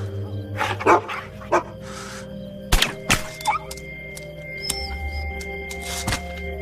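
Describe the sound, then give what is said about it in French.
Dogs bark in short, scattered bursts, some sharp, others fainter, with a few dull thuds mixed in over a low steady hum. “26 chiens. Je me souviens de chacun d'entre eux.”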